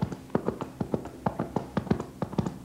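Horse hooves clip-clop in a steady, fairly quick rhythm, each hit a sharp, hollow knock, the beats growing slightly louder as the horse approaches; no voices.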